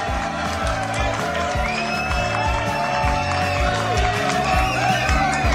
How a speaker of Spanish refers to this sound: Un fuerte aplauso.